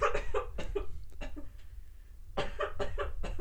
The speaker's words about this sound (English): Coughing fit. Coughing fit moment.